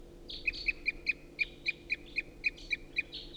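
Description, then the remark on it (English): A rapid, steady series of about a dozen short, loud toop calls from a wild crossbill rings out in the trees right above, clear, with faint chatter from other birds and no talking. “And there's still a lot of crossbill activity in the trees right above.”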